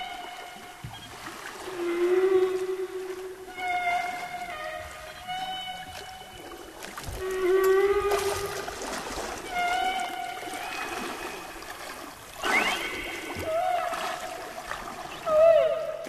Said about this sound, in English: Let's hear a little bit of some of that cool underwater whale sound, and then we'll talk about how that shaped the Save the Whales movement.